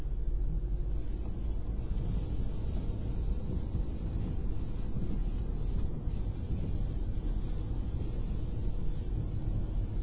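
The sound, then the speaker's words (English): Rain patters steadily on a moving car, blending into a continuous low road rumble from inside the vehicle, with no voices and no breaks for the whole stretch. “If you listen carefully, you'll hear the pitter-patter of raindrops on the car as we drive.”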